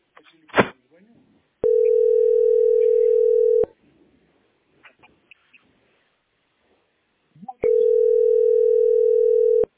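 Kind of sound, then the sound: signal or alarm, telephone dial tone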